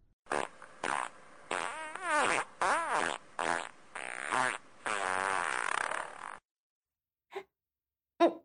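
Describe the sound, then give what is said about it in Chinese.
A loud, drawn-out run of wet, sputtering farts, let toward another person's face in a toilet, in rapid bursts lasting about six seconds, then silence broken by two brief, quieter pops. “你不要对着我脸放屁嘛。臭死了，好臭啊。”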